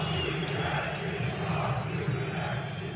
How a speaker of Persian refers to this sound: حکومت استعفا بده. ده ها هزار نفر در یک مسابقه لیگ برتر در استانبول فریاد می زنند، شعاری که در بسیاری از بازی ها در سراسر کشور تکرار می شود. این بیان خشم از ادعاهایی است که دولت نسبت به زلزله‌های مرگبار فوریه خیلی کند واکنش نشان داده است.